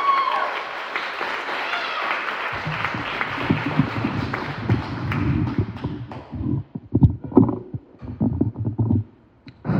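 An audience breaks into steady applause, a dense wash of clapping that holds for several seconds, then thins and tapers off to scattered claps before fading out.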